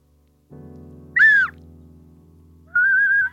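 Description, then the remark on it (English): An ocarina played in a home studio sounds two breathy, flute-like notes: a short, wavering high note that slides down, then a steadier, slightly lower held tone, both over a low continuous hum. “So I'm going to play the ocarina, and you're going to hear an advert for something that is algorithmically generated.”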